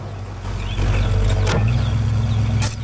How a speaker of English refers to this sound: He watches as Stella arrives in her own truck.